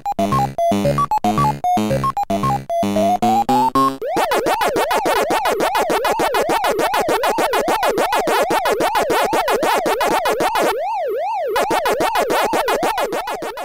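A chiptune start jingle gives way to the rapid, looping electronic munching of Pac-Man, the arcade game that debuted in 1980, a loud warbling 'waka-waka' that repeats steadily, briefly interrupted by a wavering siren-like tone, with no talking.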